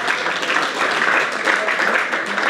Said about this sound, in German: Geben wir doch den Leuten, die daheim schauen, einen warmen, herzlichen Applaus. Come on, mega cool, dass du da bist.